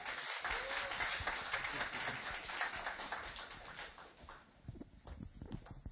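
Sustained audience applause, a dense crackle of many hands clapping at a steady level for several seconds, thinning slightly toward the end with a few louder individual claps.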